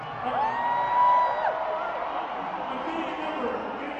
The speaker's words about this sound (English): They're so loud. There must be a gazillion people here tonight. I can't believe how big this crowd is.